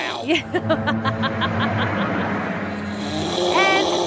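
A woman who is a very deep sleeper snores: a rapid series of raspy snoring snorts pulses in quick rhythm for a couple of seconds, then trails into a steady background rumble with a brief squeaky, wavering tone near the end.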